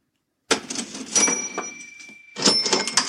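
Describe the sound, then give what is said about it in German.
A cash register sound effect: rattling mechanical clatter of keys and drawer with a bright ringing bell chime, then a second burst with another ding, fairly loud and close, with no talking. “Ich dachte mir, wenn der Money heißt, nehme ich Geld statt Kassette.”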